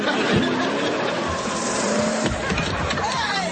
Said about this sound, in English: So, that's why he's driving off in your car?